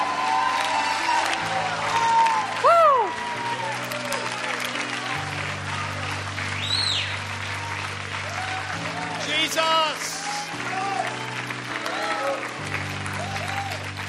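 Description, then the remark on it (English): A Baptist audience applauds in praise of Jesus steadily for the whole stretch, with shouts and whoops rising above the dense clapping while sustained low organ chords shift underneath. “Would you put your hands together and praise Jesus now tonight?”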